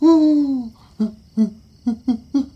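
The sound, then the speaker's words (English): A big brown owl with a yellow beak, sitting on a tree branch outside a room's window at night, hoots: one long, low drawn-out hoot followed by a rhythmic series of five shorter hoots, clear against a quiet background. “It's just a big owl sitting in a tree outside my room.”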